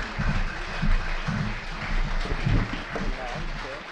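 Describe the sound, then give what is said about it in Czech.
A large concert audience chants "Mohikáni" in unison with a steady, repeating rhythm, a dense wash of many voices calling for an encore. “Publikum skanduje Mohikáni. Slyšíte?”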